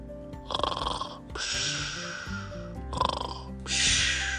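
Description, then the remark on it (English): A dog named Lucas, asleep curled up on a couch, snores loudly, with four rough, rumbling breaths alternating between wheezy inhales and snorting exhales, heard alone without any talking. “Have you ever heard a dog snore? It's pretty funny.”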